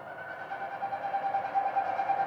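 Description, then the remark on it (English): A steady, airy whistling made by a bird's wing feathers in flight, not a vocalization, holding one eerie pitch with a gentle wavering pulse throughout, alone without voices. “But I like the character of it because it's created by their feathers and not a vocalization.”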